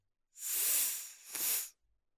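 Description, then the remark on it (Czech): A snake hisses loudly, a long breathy hiss that swells, dips briefly, then surges again before cutting off, with no voices present. “A hadzráje se pořád točí a syčí to své”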